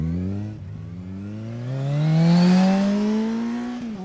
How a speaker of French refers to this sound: enfourche sa moto et va rapidement vers le vieux garage abandonné.